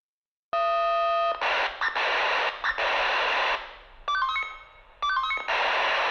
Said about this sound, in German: So hört es sich an, wenn die Mitglieder der Freiwilligen Feuerwehr zu einem Einsatz gerufen werden. Alles stehen und liegen lassen und ab in die Zentrale, heißt es dann für die Feuerwehrler.